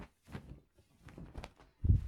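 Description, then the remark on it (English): Heavy stomping footsteps thud across a floor, a few uneven, muffled steps with short pauses between them, the last stomp landing loudest. “Oh, why don't you try and stomp a little bit louder?”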